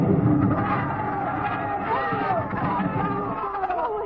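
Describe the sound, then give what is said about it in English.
A dense crowd roars and shouts together at a night fiesta in a plaza in Mexico, cheering for a papier-mâché bull amid fireworks, a steady wash of many voices cheering and yelling, holding its loudness throughout without pause. “Well, they're cheering for the bull.”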